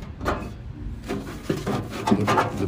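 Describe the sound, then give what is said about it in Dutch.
Crisp rustling and crinkling as newspaper pages are handled and turned, in a few uneven bursts over a couple of seconds, with no voices. “Oh, wacht even. Krantje.”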